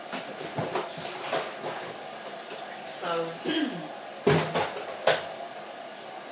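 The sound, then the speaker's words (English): A door gives a brief, wavering squeaky creak, then two sharp knocks follow as it swings and bumps. A person speaks briefly, with a low steady hum underneath. “Oh, my doors creak.”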